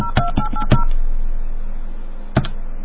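A telephone line clicks with a hook flash, then three quick touch-tone beeps sound. A steady line hum fills a short pause before one more click and tone.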